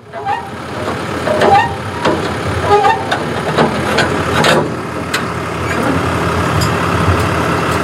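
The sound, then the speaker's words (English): A pickup truck idles with a steady low engine rumble, while scattered metallic clanks and rattles ring out as a woman standing next to the truck takes the trailer off it. No one speaks. “I find Sage as she's next to her truck, taking off the trailer”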